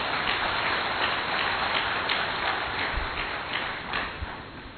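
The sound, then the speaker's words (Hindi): A crowd claps steadily and densely for several seconds, a loud patter of many hands that thins slightly toward the end, with no voices over it. “एक बार फिर जोरदार तालियां।”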